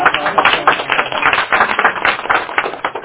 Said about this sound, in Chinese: 好了，让我们掌声欢迎